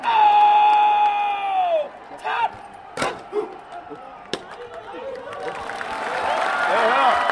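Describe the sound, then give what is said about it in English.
Hundreds of Pakistani spectators shout and cheer loudly at the daily flag-lowering ceremony at dusk at the Wagah crossing on the Pakistan-India border, with a sustained high-pitched yell at the start, a few sharp bangs in between, and the roar swelling again toward the end. “This daily ritual draws hundreds of Pakistani spectators on their side of the border, shouting at hundreds of Indians crammed into bleachers on their side.”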